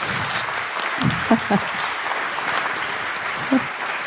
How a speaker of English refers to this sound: And so the stage is yours, and a big applause from you.